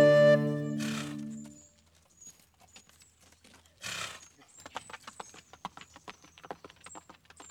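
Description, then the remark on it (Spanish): A horse gives a loud, drawn-out whinny and a breathy snort, then its hooves clip-clop in a quick, steady rhythm, with no voices. “En mi caballo me vuelvo a mi hogar.”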